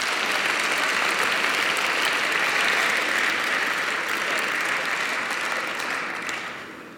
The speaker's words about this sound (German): Sie steht schon da, insofern könnt ihr eigentlich schon anfangen zu applaudieren. Bitte einen großen Applaus für Professor Dr. Miriam Meckel.